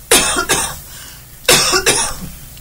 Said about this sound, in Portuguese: Vou tossir.